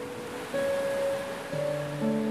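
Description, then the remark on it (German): Large ocean waves break on a beach as a steady, continuous wash of surf at moderate loudness, with soft sustained musical tones shifting pitch in the background and no voices. “Andere beobachten die großen Wellen”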